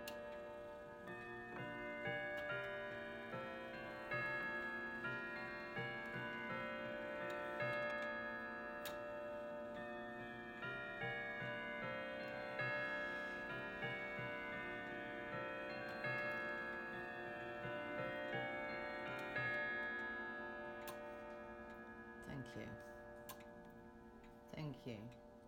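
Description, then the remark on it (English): A clock ticks in a steady, even rhythm throughout, its crisp clicks sitting beneath a dense wash of sustained, ringing tones that hold at a fairly constant loudness. “Is he going to chime on the hour now?”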